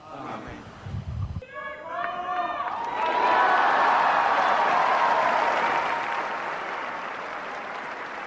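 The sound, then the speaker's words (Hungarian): A large crowd bursts into sustained applause and cheering to thank Pope Francis for his blessing, swelling loudly after a brief spoken moment and then gradually easing while clapping continues. “A mai napon is tapssal és örömújongással köszönjük meg Ferenc pápának az áldását, a tanítását.”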